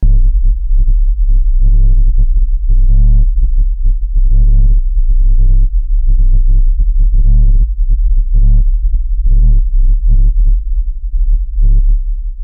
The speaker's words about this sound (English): And I totally get the whole sound of a subwoofer out in the distance. Like there's a concert occurring somewhere that you can't see, but you can totally hear the bass.